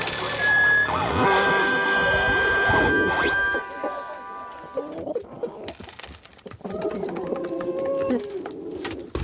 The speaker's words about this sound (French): Les poules, enfin, en picorant, tapent sur des surfaces différentes. Du bois, par exemple, du plastique, une bassine.